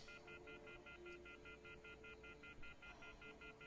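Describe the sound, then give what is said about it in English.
A telephone off-the-hook tone: a loud, rapid series of harsh electronic beeps pulsing evenly and continuously over a low background hum, with no voices. “He's got the phone off the hook now.”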